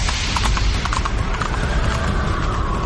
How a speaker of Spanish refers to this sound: Y el cuarto viene en caballo negro.